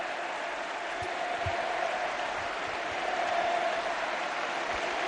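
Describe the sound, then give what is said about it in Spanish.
The crowd at El Molinón stadium stands and applauds Andrés Iniesta steadily, a dense wash of clapping with a faint rising cheer running through it and no break for the full stretch. “Hombre, a este le vuelve el aplauso Iniesta.”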